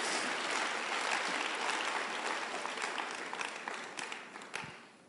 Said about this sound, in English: Oh, you better clap your hands, whether you like it or not, because that's the truth.